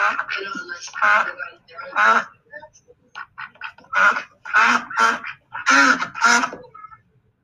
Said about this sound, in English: I have a conversation of two ducks or a group of ducks, and I wonder if you can translate it for me.